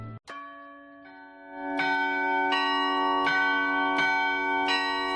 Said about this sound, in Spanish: El próximo sábado las campanas de 300 iglesias españolas repicarán a las 12 del mediodía. Echemos las campanas al vuelo.